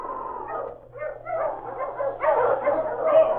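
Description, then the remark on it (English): A chorus of sled dogs barks and yips at once as three sleds are driven up to a trading post in a clearing, their overlapping voices forming a dense, continuous clamor that stays loud throughout, with no one speaking. “Then a chorus of barking filled the clearing as three sleds were driven up to the trading post”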